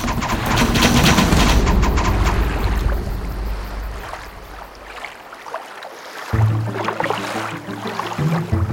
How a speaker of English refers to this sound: He ordered his soldiers to fire their arrows. The arrows all hit the grass of the boats.